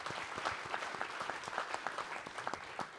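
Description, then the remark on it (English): A crowd claps steadily, a dense patter of overlapping handclaps at a moderate level with no voices, keeping an even, continuous texture throughout. “So many, yes, clap.”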